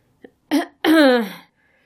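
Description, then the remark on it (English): A woman clears her throat once to get everyone's attention: a tiny click, a short rough burst, then a longer voiced 'ahem' that falls in pitch before silence. “The drama she'd expected to create when she opened her eyes was undercut by the fact that she had to clear her throat to get everyone's attention.”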